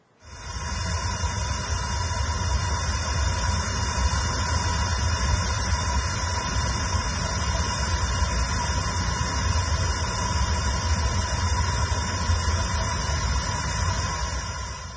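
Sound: hissing gas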